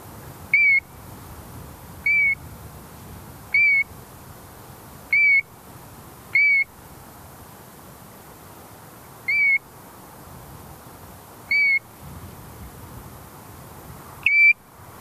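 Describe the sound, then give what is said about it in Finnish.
A European golden plover gives clear, plaintive single whistles on a light summer night on a fell upland as a thunderstorm front passes by, repeated about every one and a half seconds with a few longer gaps, ringing out over a soft, steady background hush. “Tuuli tohisee tovin tunturikoivikossa, mutta ukkos rintama kiertää meidät ja jäämme kuivina kuuntelemaan kapustarinnan viheltelyä valoisassa kesäyössä.”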